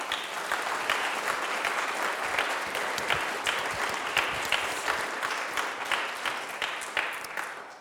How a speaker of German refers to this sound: Und dafür möchte ich Ihnen an dieser Stelle ganz herzlich danken. Das ist ein Applaus wert für Sie mal.